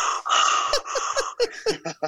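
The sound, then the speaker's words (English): A voice imitates heavy, rasping respirator-mask breathing: a long hissing draw of breath, then a run of short choppy breathy bursts that slide toward laughter. “But it's the breathing. Yeah, it's the breathing.”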